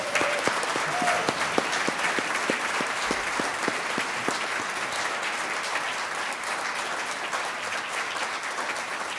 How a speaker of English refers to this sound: We are very fortunate, and let's applaud them, shall we?